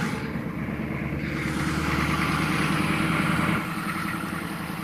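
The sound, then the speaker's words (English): A small school bus engine idles steadily, a low continuous rumble with a faint mechanical throb that holds at an even level throughout, as the bus is about to pick up a student in a wheelchair, with no voices. “It's the small school bus that's going to be picking up this student in a wheelchair here.”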